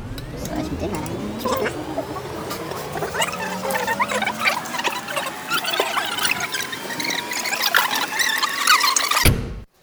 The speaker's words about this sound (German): Ja, eigentlich muss ich euch das mal zeigen. Wartet mal, ich spule das mal eben zurück.